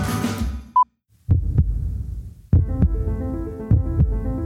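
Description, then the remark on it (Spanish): A human heartbeat thumps in slow, steady lub-dub pairs, deep, with a soft musical drone swelling beneath it after a brief electronic beep at the start. “Escucha, es el sonido de mi corazón.”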